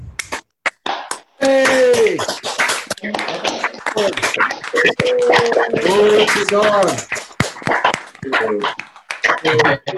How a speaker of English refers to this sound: Okay, can I get everybody to come off mute for a minute and maybe just give a clap offering to the Lord before we move on?